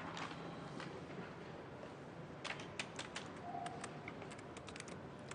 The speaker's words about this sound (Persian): خیلی خوب. بیا این متن رو تایپ کن من ببینم.